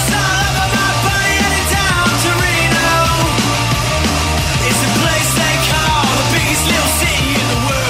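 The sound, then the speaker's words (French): Loud, dense punk rock with driving drums, distorted guitar and thudding bass, a singer shouting over the band at a fast, steady pace throughout. “Il y a de la guitare, il y a du drum, il y a de la bass, puis un chanteur qui crie.”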